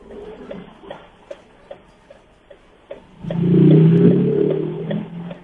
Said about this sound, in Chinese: 我们没有听到飞机声，我们听到摩托车的声音， 好有现场感，停在路边，对不对？